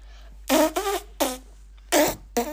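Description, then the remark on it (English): A string of loud fart sound effects: five buzzy, tonal blasts of varying length in an uneven rhythm, separated by brief silences, with no talking. “Is that really where a fart noise should have gone in the podcast?”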